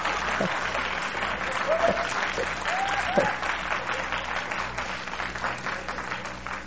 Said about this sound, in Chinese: 他说再讲，有人说还拍手啊。哦，我在这个华人教会里面讲到现在啊，还没有人拍手啊！